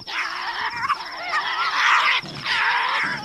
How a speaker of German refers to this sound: Als es Abend wird, ist zwischen den Ruinen von Port Arthur ein wildes Kreischen zu hören. Ein tasmanischer Teufel, das größte fleischfressende Beuteltier der Welt,